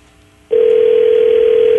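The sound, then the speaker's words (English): A telephone on a radio call-in line rings with a loud, steady electronic tone that starts abruptly after a short quiet moment and holds unbroken to the end, with no one talking. “She ain't got nothing to do but drive, so answer the phone.”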